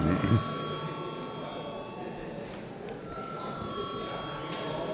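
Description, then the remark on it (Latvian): A continuous electric bell rings steadily for several seconds, its bright tone sustained throughout, in the chamber of the Saeima, Latvia's parliament, rung to call deputies to a vote on a bill, while a low murmur of voices and room noise fills the space. “Aicinu Saeimu likuma projektu atbalstīt otrā lasījumā. Paldies, lūdzu zvanu.”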